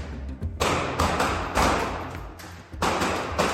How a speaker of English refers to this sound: Suddenly, the door flings open. One of the three male officers, covered in protective gear from head to waist, pushes in.